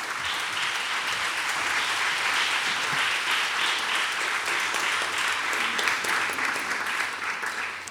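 Sustained applause from an audience in the Radio Nacional auditorium for Gabriel Valverde, dense and steady clapping filling the whole stretch at an even, fairly loud level without letting up.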